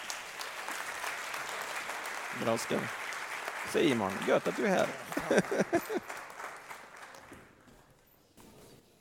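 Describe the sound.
Sustained audience applause for a team, a dense wash of many hands clapping, while a man speaks briefly over it before the clapping thins out and fades near the end.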